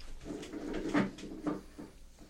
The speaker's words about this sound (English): Without waiting for the masked man and Indian, Dave hurried through a door that opened from the stable directly into the doctor's office.